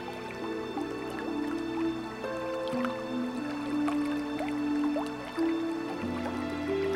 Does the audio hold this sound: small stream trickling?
yes